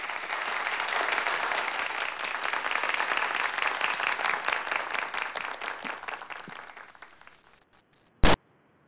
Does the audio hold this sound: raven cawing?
no